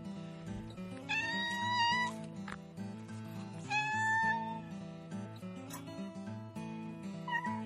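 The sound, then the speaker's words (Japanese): A stray cat named Hanapotchi meows insistently for food, two long drawn-out cries followed by a shorter one near the end, over a steady low droning background. “はい、花ぽっちちゃんはすいません、猫です。野良猫です。じゃあまた再びご登場願いたいと思います。”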